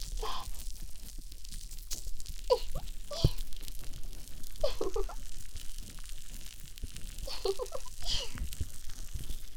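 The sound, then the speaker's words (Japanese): Dense, fizzy crackling of foam bubbles popping by the ear as the foam is used to clean the ear, a steady hiss of tiny pops with a few louder crinkly bursts scattered through, and no talking. “パチパチした泡の音が気持ちいいね。”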